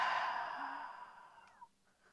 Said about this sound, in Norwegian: Ja, då börjar vi med att puste. Gott, in med näsa. Och ut genom munnen.